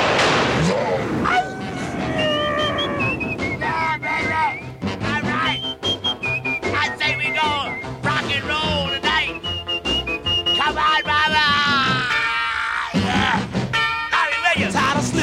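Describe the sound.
Shrill whistle blasts sound again and again, loud, over a dense, noisy mix with voices shouting and hollering throughout; radio personality Wolfman Jack screaming, hollering and blowing whistles on his radio act.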